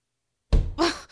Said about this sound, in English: You think pushing me against the wall is funny?